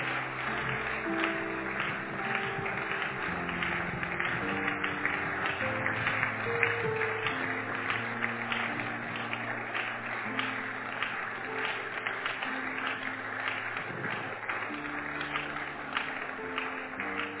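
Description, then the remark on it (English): An audience claps steadily and continuously to encourage people coming forward, a dense, sustained wash of many hands, with sustained keyboard or organ chords playing underneath throughout. “Keep clapping. Motivate them as they come.”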